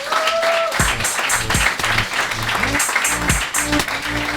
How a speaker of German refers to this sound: Applaus!